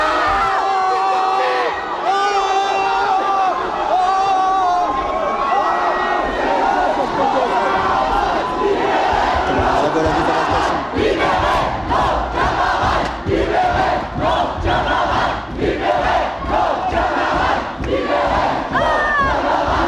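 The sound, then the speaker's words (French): A loud protest crowd, with students on one side and CRS riot police on the other, shouts and yells continuously, voices overlapping in a dense, agitated roar with sharp bursts of cries as people surge forward to stop police from taking a man away. “Mouvement de foule pour empêcher que les flics emmènent du mec.”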